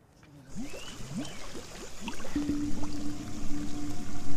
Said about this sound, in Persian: بفرما، اینم از مقصر شیر بازه.